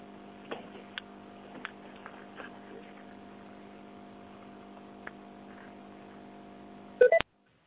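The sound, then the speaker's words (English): A quiet conference call line hums steadily with a few faint clicks, then a single short, loud electronic beep sounds near the end as recording begins, before the line cuts to silence. No one speaks. “You can hear a little beep.”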